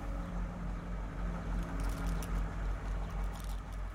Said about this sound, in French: Un camion freine dans la rue.